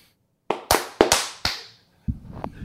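Five loud, sharp hand claps by two men, off cue, land in an uneven, stumbling rhythm, each with a brief ringing decay, followed by a low, muffled rumbling noise.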